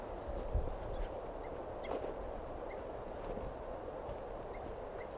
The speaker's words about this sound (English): I'm walking over to where that tooping bird is.